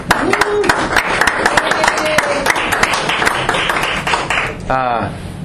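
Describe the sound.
An audience breaks into a dense round of applause, many hands clapping steadily for several seconds, with a few whoops and voices rising above it before a voice calls out near the end.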